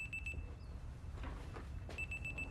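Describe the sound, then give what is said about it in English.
A door alarm, its service canceled, beeps by default while the door is open: quick bursts of high, piercing electronic chirps, pausing in the middle while a soft shuffling sweep and a steady low rumble fill the gap. “I canceled the service, but it beeps by default when it's open.”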